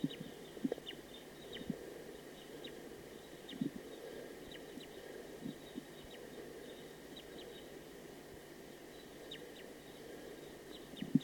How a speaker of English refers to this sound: It's a recording wild bird. That last wild bird was shot. It was a female.